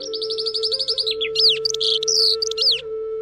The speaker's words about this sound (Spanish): De pronto, a lo lejos, oyeron el canto de un pájaro que no habían visto ni escuchado antes.